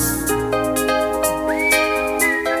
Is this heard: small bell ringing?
no